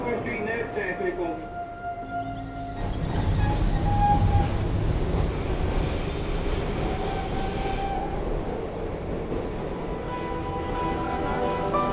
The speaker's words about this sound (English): Down here, subway. We're headed to Chinatown.